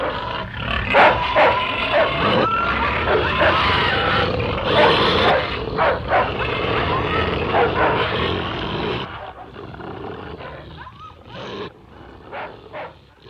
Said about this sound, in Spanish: Cuando terminaron su confesión, los perros, sin perder tiempo, les desgarraron las gargantas.